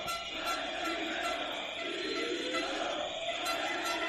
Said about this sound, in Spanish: Hoy todos los gritos y pitidos iban directos a Chivite. Escuchen.